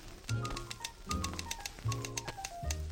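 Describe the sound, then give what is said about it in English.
Rapid Olympia typewriter keystrokes clatter in quick bursts, crisp clicks over a low sustained tone that swells and fades in regular waves. “Olympia, simply a wonderful typewriter. Quick, smooth, easy.”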